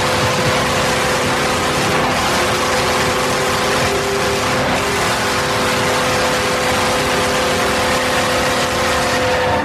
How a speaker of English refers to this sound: That is a full-throated horn. It's got a nice sort of subtle emergency signal in the background, kind of an ambulance thing going on there. I like that.